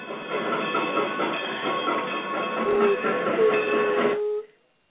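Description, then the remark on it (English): A train rumbles steadily with a dense, rattling roar, joined near the end by a sustained whistle-like tone before the sound cuts off abruptly. No one speaks. “We had to slow down the train.”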